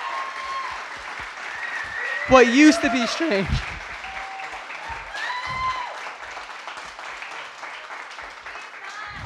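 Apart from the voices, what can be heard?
audience applause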